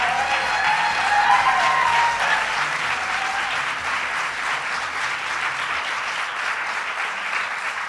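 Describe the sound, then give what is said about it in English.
A crowd applauds the legislators who passed a vote, loudly and steadily, a dense wash of clapping that holds for the whole stretch, with a few whoops and cheers rising over it early on before easing slightly. “And let's give a round of applause to all the legislators who finally got it done.”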